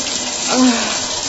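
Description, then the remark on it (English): A hard, straight, steady stream of water sprays from a shower massager on its highest pulse setting, a continuous hiss that swells slightly midway, with a brief faint vocal sound underneath. “Oh, it's right on my clit, that hard stream of water coming right out of the shower massager.”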